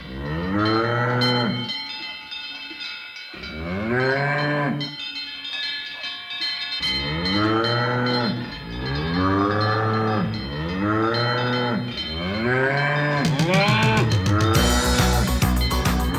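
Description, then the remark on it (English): Cows moo loudly, about six long, drawn-out calls following one after another every couple of seconds, with a faint clanking like bells near the end. “You definitely need cows to make the milk that goes into making Emmental cheese and biscuits.”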